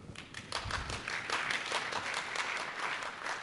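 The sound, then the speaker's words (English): A crowd bursts into steady applause, many hands clapping densely at once, holding a fairly even level throughout with no voices rising above it. “So, if there's ever a time to applaud.”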